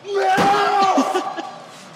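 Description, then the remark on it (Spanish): Roman slams an ambulance door against Braun Strowman's left arm: a loud metallic slam near the start, then a second thud, over a roaring crowd and Strowman's strained yell of pain that fades away. “Roman está ahí apoyado en la ambulancia. Y ahí Roman le tira la puerta en el brazo izquierdo.”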